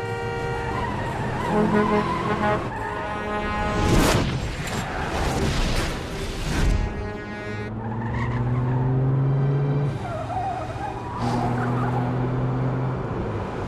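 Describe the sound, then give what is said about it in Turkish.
A car races at high speed on a narrowing road with a truck ahead, engine roaring, then tires screech in long, loud skids, including a sustained squeal midway, with no talking. “Lütfen yavaşla. Önünde kamyon var.”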